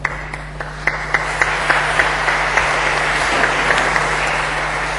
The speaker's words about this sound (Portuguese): Ainda não comecei, não sabe se as palmas serão merecidas.